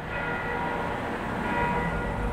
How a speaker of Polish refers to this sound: To dźwięk, który ona słyszała jako mała dziewczynka, a my teraz. Dźwięk dzwonów w mieście. Dźwięki były ważne dla niej.